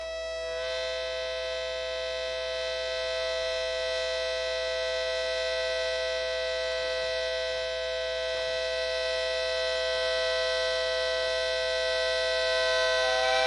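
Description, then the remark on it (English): A metallic blue, yellow, green and purple tea kettle whistles a steady three-note harmonica-reed chord, starting almost at once and holding loud and unbroken for over ten seconds, growing slightly louder toward the end. No one speaks. “It has a full harmonica chord as its whistle, a three-note chord.”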